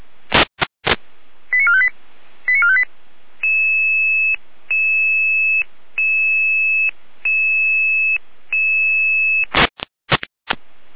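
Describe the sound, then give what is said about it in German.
Electronic emergency dispatch pager alert tones for a German Red Cross rescue unit in Saalfeld: quick chirping tone sequences, then six evenly spaced, steady beeps, framed by sharp static bursts at start and end. Loud, with no voices. “Genau, die Alarmierung.”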